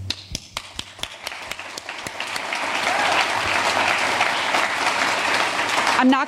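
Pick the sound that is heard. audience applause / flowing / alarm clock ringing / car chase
audience applause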